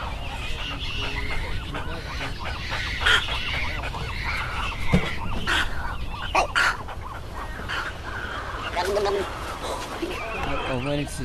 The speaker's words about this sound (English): To catch that bubbling sound that they make. That That's the egret, snow egret, but it's kind of what we call, I think it's called bubbling, but it's just the sound that they make, and it's just kind of a unique sound.